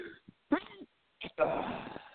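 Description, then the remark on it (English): A drawn-out sneeze: a voiced intake and a short catch, then a loud, hissing burst that trails off over about half a second. Brief voice sounds come before it. “It bless you.”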